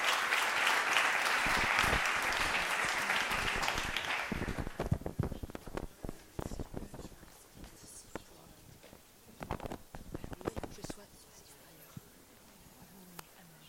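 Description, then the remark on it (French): An audience applauds to welcome Laure de la Rodière, president of ARCEP, Lionel Suchet of CNES and Sylvain Wasserman of ADEME: dense clapping at first that thins after about four seconds into scattered, sparse claps that gradually trail off. “On peut les applaudir.”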